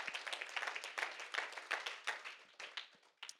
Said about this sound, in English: You can clap for that. That's good stuff. That's worth clapping over.